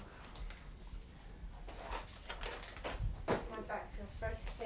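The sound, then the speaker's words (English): An oven door being opened, with a short clunk and a brief rattling scrape partway through, while people talk quietly over it. “oven door and jump back before you.”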